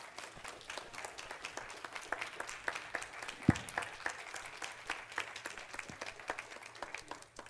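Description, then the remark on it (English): Steady applause from an audience, a dense patter of many hands clapping at once, sustained at an even level for several seconds with no voices on top. “Before you go, I know you, and I know you like public applause.”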